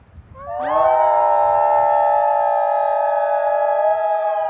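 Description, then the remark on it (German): A chorus of visitors at a wolf and wildlife center in Colorado howls together like wolves on command, rising sharply and then holding long, steady, overlapping tones, loud, over a faint rumble of outdoor background noise. “Auf Kommando heulen. Das sollen nicht nur die Besucher im Colorado Wolf and Wildlife Center. Im Idealfall tun das auch 80 hier lebende Wölfe.”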